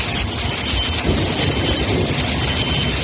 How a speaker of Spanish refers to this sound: Es el sonido del aeropuerto de Ibiza totalmente anegado por el agua.